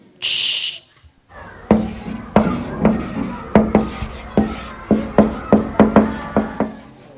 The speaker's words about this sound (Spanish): Este es más difícil. ¿Qué será? Cuando la profesora escribe con el rotulador en la pizarra.